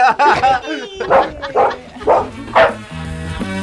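A dog barks five or six times in a quick, steady rhythm, loud, before a musical tune starts up underneath at the end.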